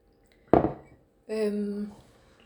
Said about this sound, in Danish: Så drikker vi lige noget vand, du og jeg, for at skylle efter.